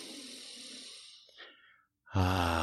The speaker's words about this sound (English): So here's what you need to do. Take a deep breath, first off.